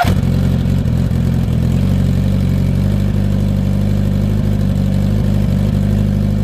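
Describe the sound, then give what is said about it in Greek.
A Kawasaki GPZ-900 Ninja motorcycle engine runs loudly, holding a steady, deep throbbing rumble with only slight swells in pitch, and no voices over it. “Η εμβληματική τότε αυτή μηχανή της Kawasaki.”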